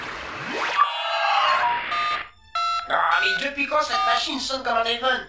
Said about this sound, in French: Cette machine sonne comme un téléphone.